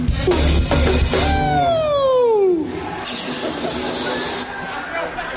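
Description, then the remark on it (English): A balloon for a party is filled from a gas canister in loud hissing bursts, with a squealing whistle that slides downward in pitch between them, over a low background murmur. “These are balloons I'm blowing up for a party later.”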